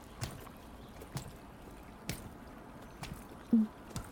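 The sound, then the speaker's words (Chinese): Slow, steady footsteps squelch through shallow stream water, crossing small streams toward a house, each wet splash landing about a second apart, with faint drips and trickling in between and no voices. “你看，这就是他所在的房子，穿过这些小溪就可以过去了。”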